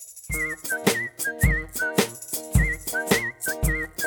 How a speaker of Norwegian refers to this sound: Hun åbnede straks sit vindue. En fugl?